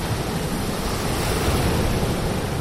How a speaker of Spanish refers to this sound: Bajo nuestros pies la arena de la playa, alguno haciendo gimnasia y de fondo el sonido del mar.